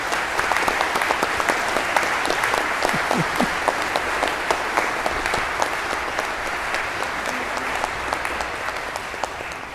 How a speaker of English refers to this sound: So hold out your hands, and let's give a round of applause to our new priest,